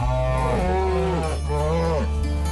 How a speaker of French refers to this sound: Et je vous ai passé cet extrait parce que j'ai halluciné d'entendre les vaches répondre à l'éleveur. Alors il paraît que c'est normal, mais moi j'imaginais pas que les vaches nous parlaient aussi bien que ça.